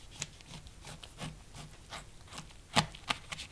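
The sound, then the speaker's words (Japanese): A knife saws lengthwise through a firm boiled bamboo shoot, cutting it in half to make a bamboo-shoot cup, in quick, repeated rasping strokes, ending in a sharper crunching cut. The sound is fairly quiet, with no talking. “茹でたタケノコを縦半分に切っていきます。”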